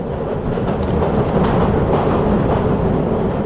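A London Underground train rattles along with a loud, steady roar, dense low rumble and faint rhythmic clatter running throughout, no voices.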